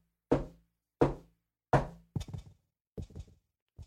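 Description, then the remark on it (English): Three heavy, evenly spaced knocks ring out from a back bedroom, followed by several quicker, softer thuds and taps trailing off, with no voices and silence between hits. “There was a pause for a brief moment before four loud knocks came from the back bedroom.”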